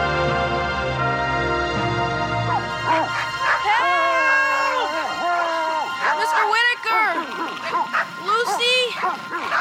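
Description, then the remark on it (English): Several dogs bark and yelp loudly below a tree in a rapid, overlapping flurry, following a few seconds of low droning sound beforehand. “Thank you, Lord, for not giving dogs the ability to climb trees.”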